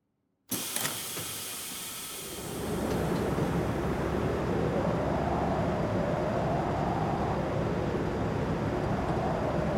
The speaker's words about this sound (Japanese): ああ、念のため先にお伝えしますと、髪の毛や服についたホコリが部屋の中に入らないよう、防塵室を挟みます。扉を開くとセンサーが反応して、強風が押し寄せてきますので、注意してくださいね。